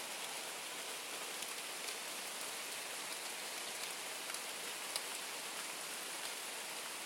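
nature, rain falling

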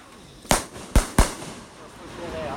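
sound effect, fireworks going off

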